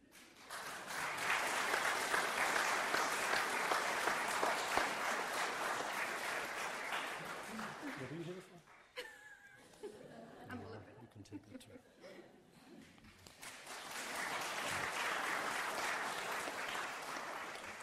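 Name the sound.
audience applauding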